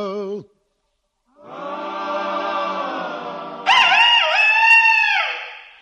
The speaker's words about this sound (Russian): Петух пропел неистово.